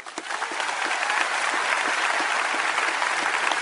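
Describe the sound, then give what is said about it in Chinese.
A crowd of more than 16,000 people in the city centre of Louisville, Kentucky claps steadily in sustained applause welcoming the Dalai Lama. It is a dense wash of many hands at constant loudness, with no voices rising above it. “当天下午2点钟，路易维尔市市长格莱格·菲舍尔在该市中心同16000多位观众热烈欢迎了达赖喇嘛尊者。”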